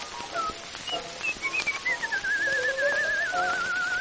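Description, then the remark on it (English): A man whistles a short tune, a clear, continuous melody with gliding pitch changes and a few held notes, with no talking. “he would whistle in this way.”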